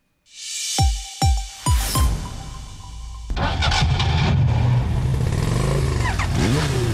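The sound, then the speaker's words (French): An engine cranks with a few sharp turnover bursts, then catches and settles into a loud, steady idle, with a brief rev rising near the end. No one speaks. “Avec Ecobatterie, votre bateau, tondeuse, moto, auto démarre au quart de tour.”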